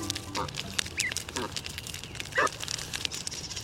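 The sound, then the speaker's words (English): Several short honking and peeping calls from Canada goose goslings and their parents on paths around a local pond, scattered irregularly over a steady outdoor background hiss, some calls brief and high, others lower and fuller. “Young goslings, along with their caring and defensive parents.”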